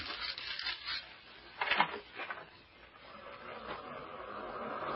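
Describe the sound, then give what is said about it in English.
Ocean surf crashing in a steady rushing wash, with a louder wave breaking about a third of the way through, then a rolling roar that continues to the end. No one speaks. “The surf sounds ominous.”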